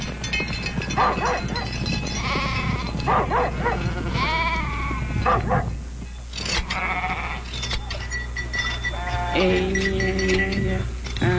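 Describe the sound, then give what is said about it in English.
A flock of sheep bleating repeatedly, several wavering calls overlapping, with a steady low rumble of background noise throughout. “Long ago it was said, if your fingernails are frostbitten and your toenails are falling off from herding sheep, only then do your sheep belong to you.”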